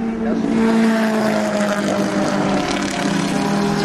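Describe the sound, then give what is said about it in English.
A steady, loud roar of vintage race car engines in a vintage race, led by a Spitfire, with cars such as Datsuns, Mazdas, MGs, Porsches and a classic Lotus, droning tones holding fairly constant for a few seconds, with faint voices mixed in underneath. “Oh, there's a Trav Spitfire, first one.”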